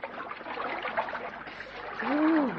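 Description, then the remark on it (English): Steady, continuous splashing and sloshing of cold water as people wade into a stream; a brief voice rises over it near the end. “Oh, the water's quite cold. Come on, let's go in.”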